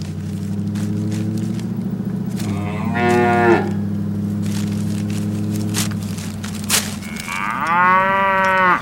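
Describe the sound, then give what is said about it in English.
A voice imitates a cow with a long, low, drawn-out moo that swells into higher, strained bellows twice, loud, with no other talking. “And now a cow who goes to the Chicken Hut drive-thru and then gets halfway home before realizing they forgot his French fries.”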